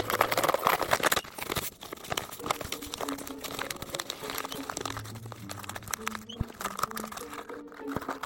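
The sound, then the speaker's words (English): Paper being folded by hand like origami, fairly loud, with steady crinkling and rustling, sharp crisp creases and soft scraping as the sheet is handled over several seconds. “However, if you don't suffer from gluttony, such as myself, when it comes to yogurt, paper is a great alternative.”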